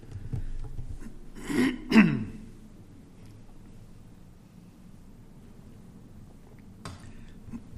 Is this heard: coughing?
yes